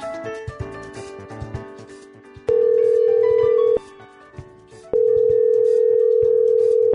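A telephone ringing tone from a call to the selector of the Raindance Film Festival in London sounds twice as long, steady, fairly loud beeps separated by a pause, over a quiet background of soft music and noise.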